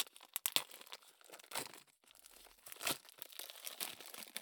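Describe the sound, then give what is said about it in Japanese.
Crinkling and tearing of the plastic packaging of a newly bought adult toy as it is cut with scissors and pulled open, with sharp snips at the start, a brief pause, then sustained rustling and crackling. No one speaks. “あ、どっちにしろハサミいるやつだった。ハサミあるんだけどね”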